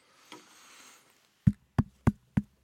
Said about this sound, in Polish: Puk, puk, puk, puk. Teraz wy mówicie, kto tam. Puk, puk.